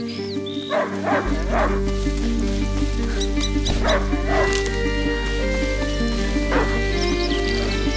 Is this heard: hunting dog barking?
yes